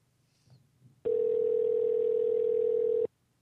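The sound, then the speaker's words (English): A single telephone ringing tone heard through a phone line: one steady, loud two-second buzz that starts and stops abruptly, preceded by a moment of faint line noise. “Oh, it's calling. Sounds like it.”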